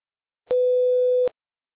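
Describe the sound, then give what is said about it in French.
A single steady electronic tone at a mid pitch, lasting just under a second, starting and stopping abruptly, a clean voicemail beep after which the caller leaves a message, with silence on either side. “Pour déposer un message, parlez après le bip, puis validez en appuyant sur dièse ou raccrochez.”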